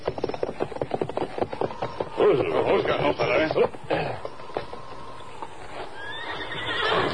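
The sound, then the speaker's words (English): A horse whinnies loudly and shrilly for a second or two, while a steady clip-clop of hooves keeps a rhythmic beat before fading into a faint, rising rumble. “Horse take shelter by line shed just ahead.”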